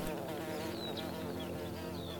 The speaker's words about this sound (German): Du hörst das Singen anderer Vögel und das Summen der Insekten.